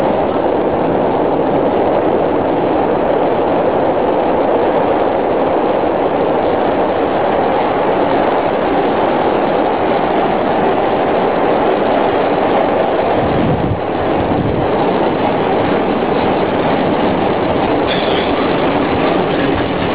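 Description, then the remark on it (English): A moving train rumbles steadily along the tracks, loud, with a continuous roar and rattling wheel noise throughout and a brief shift in tone partway through. “Can you get the moving train in?”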